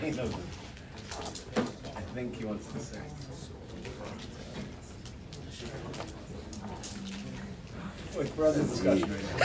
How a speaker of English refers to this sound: Wow, the winds. The door is wrenched. On that other door, now shut. When both entrances are open. Yeah, right now it's slammed.